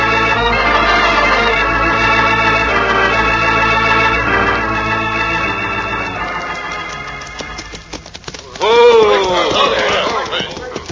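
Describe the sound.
Rapid galloping hoofbeats pound in a steady rhythm as dramatic orchestral music fades, then a man's voice calls out loudly over the last of the hooves.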